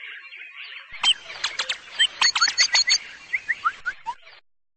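Rapid, bright bird chirps and twittering trills over a soft, airy background, with a quick burst of notes in the middle followed by a few descending whistled tweets. No voices.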